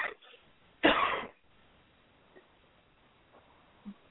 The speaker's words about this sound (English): He's got a cough going on.